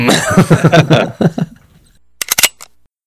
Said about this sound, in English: Well, let me clear my throat.